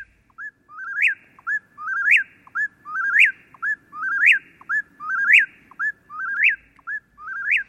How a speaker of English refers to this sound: this is the Eastern Whippoorwill, recorded in Massachusetts